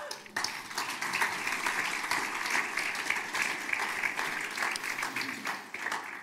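An audience applauds steadily, a dense wash of many hands clapping at a fairly loud, even level for several seconds before thinning slightly at the end, at a church service celebrating baptisms.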